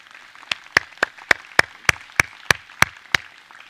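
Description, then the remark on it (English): An audience at a church service applauding, with thanksgiving and praise to God, as people go back to their seats: one set of sharp, steady claps stands out above a soft wash of scattered clapping. No voices are heard. “And as they go back to their seats, let us give them a round of applause and thanksgiving and praise to our God.”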